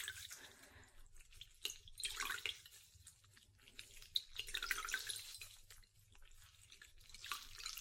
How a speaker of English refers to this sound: So what I'm doing now is I'm gonna wash your face.